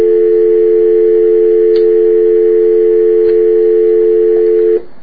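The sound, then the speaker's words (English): A steady, continuous telephone dial tone hums loudly for nearly five seconds without a break, then cuts off abruptly at the end. No one speaks. “Here, I'll give you the dial tone while I chug.”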